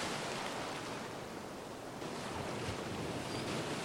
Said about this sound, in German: Du riechst das Meer. Du hörst die Wellen und auch die Möwen.